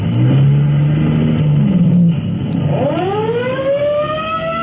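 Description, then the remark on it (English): A car engine revs loudly as Fire Department Chief Cody's car pulls away to answer a fire alarm at Main and Clark Street, then a siren winds up and rises steadily in pitch over the engine noise. No one speaks. “Let's go to Fire Department headquarters just in time to join Chief Cody as he rolls in his car to answer an alarm.”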